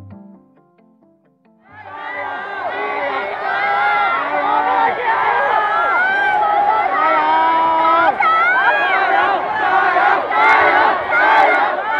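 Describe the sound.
A large crowd of protesters in Hong Kong, protesting an extradition measure, shouts and chants together, a loud, dense wall of many voices that begins abruptly after a quiet second or so and holds steady, with rising and falling yells throughout.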